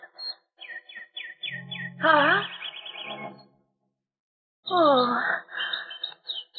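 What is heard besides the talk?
caged birds chirping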